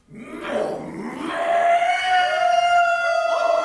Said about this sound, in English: That cry! A wolf! An animal! Why does it sound like... Dracula?